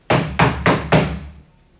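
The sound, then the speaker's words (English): Four firm knocks on a door in a steady, even rhythm, each a solid thud with a short ringing decay, fairly loud with no voices. “You walk up to the gates of heaven and you knock on it.”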